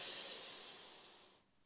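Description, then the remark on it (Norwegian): A long, deep breath drawn in again before holding it, a soft airy hiss that holds steady and then tapers off after about a second and a half. Fairly quiet, with no talking. “Da puster vi godt inn en gang til.”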